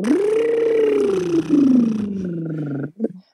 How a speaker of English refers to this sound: Doing some, they call them lip trills or buzzing tones.